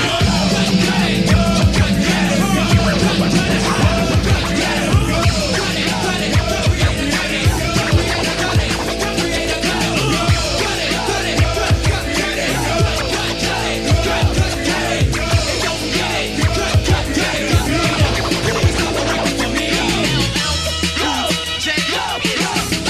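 A loud, dense hip-hop track with a punchy, steady beat and shouted group chants repeating over the music throughout, with a brief shift in the mix near the end.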